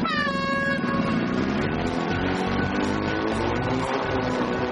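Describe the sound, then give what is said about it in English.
A loud, sustained hooter blares to start team Hot Property's timed slalom round, in which the driver must go through five numbered gates. It has a bright, harmonic tone that wavers in pitch, layered over a busy, continuous background of noise for several seconds. “Hot Property, on the sound of the hooter, lights, camera, traction!”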